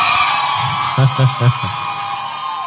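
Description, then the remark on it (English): An audience shouts and cheers amid a dense wash of crowd noise as their annual Night of Wonders program is announced, with four quick, rhythmic voiced whoops rising above it midway before the din settles back to a steady roar. “Those who are shouting have been in Night of Wonders before.”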